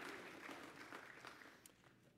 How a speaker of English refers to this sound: Can we just praise the Lord together with clapping? Praise the Lord.